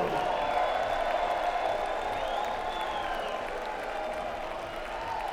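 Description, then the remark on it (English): A large live audience applauds and cheers continuously, a dense wash of clapping with scattered whoops and shouts, fairly loud and steady before tapering slightly toward the end. “Wow, what a great crowd. Thank you so much for coming out and helping us make this music.”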